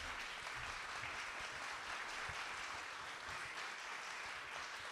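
Sustained applause from an audience, a dense crackle of many hands clapping steadily and evenly throughout, fairly loud, with no talking over it.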